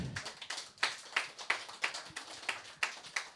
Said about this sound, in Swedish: Och så vill jag att ni tackar mig med en applåd.